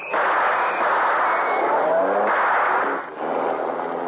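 A car speeds off with a loud, steady engine roar and rushing road noise that holds for several seconds, dipping only briefly near the end. No one speaks.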